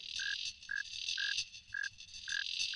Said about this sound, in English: playing music with insects. He's recorded songs with a lot of them, with crickets and cicadas, and yes, even mosquitoes.